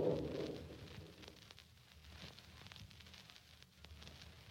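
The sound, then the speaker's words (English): A steady downpour hisses throughout, with scattered crackling patters, while a low rumble of thunder fades in the first moment. Fairly quiet, with no voices. “Hours pass, and the steady downpour continues.”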